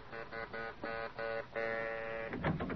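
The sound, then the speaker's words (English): A buzzing doorbell at an elderly woman's home rings in several quick, insistent bursts, then holds one longer ring before it cuts off into a brief rattling clatter. No one speaks. “So, when her doorbell rings, a gleam appears in her sharp old eyes, and brushing her butler aside, she answers the door herself.”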